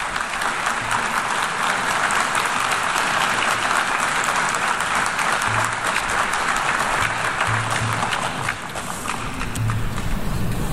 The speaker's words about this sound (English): He spoke on Wednesday at the UN General Assembly's general debate, and he ascended to the podium to rather wide applause from the assembled heads of state.